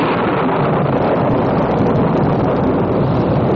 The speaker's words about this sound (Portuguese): Mas o que é isso? De ser o vento batendo na janela?